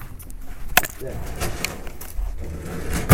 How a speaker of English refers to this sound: Is that a drawer full of zips? Yeah, zippers and envelopes.